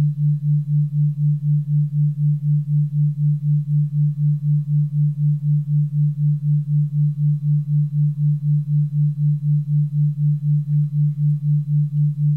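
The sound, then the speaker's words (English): A steady low pure tone hums on its own, softly pulsing in a quick, even wobble about four times per second. Two pure tones, one played in the right ear and one in the left, at the same time and in phase, beat against each other to form a 4 hertz binaural beat. No voices. “A third tone is created, a new tone, a binaural beat, is created by your mind.”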